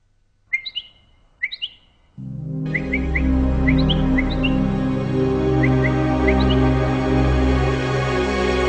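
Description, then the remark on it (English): Two bright, isolated bird chirps ring out, then a steady stream of short tweets and trills continues over a loud, sustained low rumbling background. “Some birds have another ability, as well as all their other miraculous features.”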